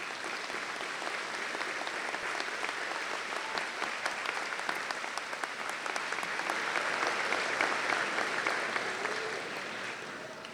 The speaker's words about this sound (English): So graduates, I'm going to ask you to stand up, turn around, and join me in applauding your family and friends to say thank you. So let's give it to them a round of applause.